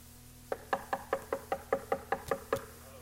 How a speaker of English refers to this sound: Jesus is knocking. Did you hear that, my friend? He's knocking.